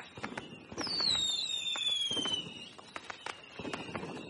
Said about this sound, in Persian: سر و صدای ترقه و آتش بازی کوچه رو برداشته بود.